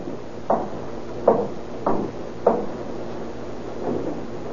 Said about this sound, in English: It is still an hour before midnight when he knocks on the door of a house in Aliso Street.